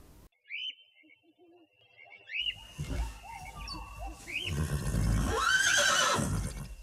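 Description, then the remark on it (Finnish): A horse whinnies loudly, a long quavering neigh that rises and falls, preceded by a few brief bird chirps and some rustling movement. “Mieleeni tulee myös kertomus onnellisesta hevosesta, joka on niityllä ihailemassa auringon paistetta ja apiloiden tuoksua.”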